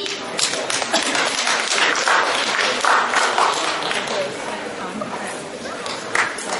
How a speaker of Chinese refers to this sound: 谢谢各位掌声鼓励， 给您更换一 场。